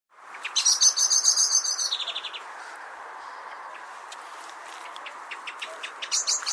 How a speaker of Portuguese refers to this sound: O segundo ficheiro é agora um grito de alarme. Um grito de alarme também do melro. Exato.